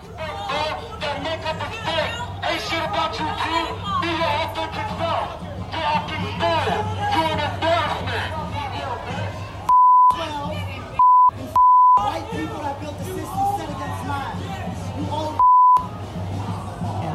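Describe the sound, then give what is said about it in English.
A loud crowd of protesters in a restaurant's outdoor seating area shouts and chants continuously at diners, voices overlapping in a dense roar, with four short, steady censor bleeps cutting in near the end. “Anyway, they're shouting.”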